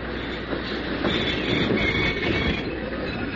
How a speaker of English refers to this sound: Hey, look at this big streamliner